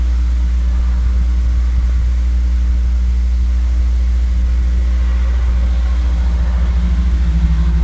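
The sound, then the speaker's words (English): Strong wind roars steadily and loudly, a deep, constant rumble with a broad hiss over it, sustained without pause and with no voices. “The wind blew hard.”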